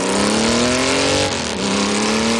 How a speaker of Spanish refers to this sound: Acabas de escuchar el sonido de una moto. Una moto como la de Marta Insausti, con la que, ha dado la vuelta al mundo.